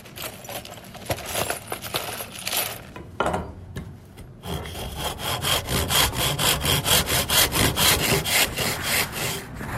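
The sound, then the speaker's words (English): Sawing during metalwork at school (MG21): quick, scratchy back-and-forth strokes, a short pause, then a loud, steady rhythm of about two rasping strokes per second. No one speaks. “Play basketball, create metalwork, draw, and spray paint.”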